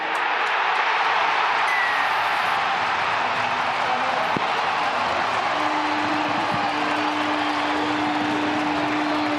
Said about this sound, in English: And Josh Papali'i with a shot at goal. I'll let the crowd tell the story here as Papali'i lines the ball up 10 metres to the left-hand side of the uprights.